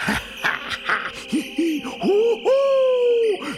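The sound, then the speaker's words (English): An owl hoots several times in succession, short calls at first and then longer, drawn-out hoots, fairly loud against a faint background hum. “Bats dwell here, and hoot owls too.”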